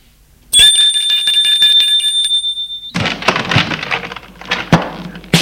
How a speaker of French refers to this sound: La voiture s'arrête devant une petite maison d'un étage près de la gare. Lui sonne à la porte.